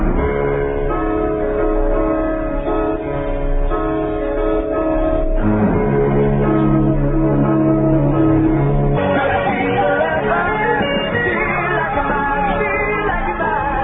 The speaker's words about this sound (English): What we have next is a record that was just released. It's my newest single, and it's on Bell